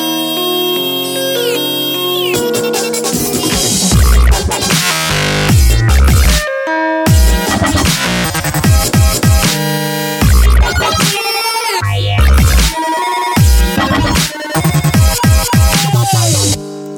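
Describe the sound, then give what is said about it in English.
The default ringtone of a Nokia phone, a loud electronic tune in a dubstep style, plays alone for about seventeen seconds, with synth melody, heavy wobbling bass drops and choppy rhythmic breaks and pauses. “So you buy them a phone and then you test it out. And then the default ringtone is this.”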